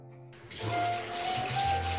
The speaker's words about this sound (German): Verdammt, wir haben kein Brunnengeräusch. Markus, dreh mal den Wasserhahn auf. Von der Badewanne.